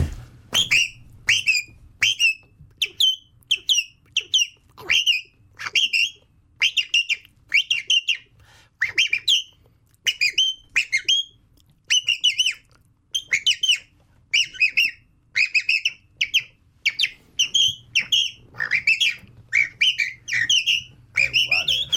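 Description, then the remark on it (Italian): A song thrush sings alone in a long, loud run of bright, whistled phrases, each short motif repeated in quick bursts with brief pauses between, over a faint low background hum. “vogliamo far saltare con un altro uccellino qualcuno? Sì. Cosa ci fai? Un tordo bottaccio.”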